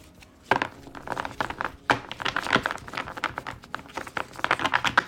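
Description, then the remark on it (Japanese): A deck of cards is tapped against a surface to square it after shuffling: a few sharp knocks amid busy papery rustling and shuffling. No voice is heard. “トントンとしました。”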